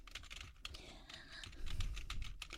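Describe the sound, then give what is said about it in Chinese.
Rapid, uneven clicking of keys on a computer keyboard as someone plays on the computer, struck in quick bursts throughout, fairly soft, with a low background rumble and no voices. “你别玩了，等一下，我把键盘都给你拿走。”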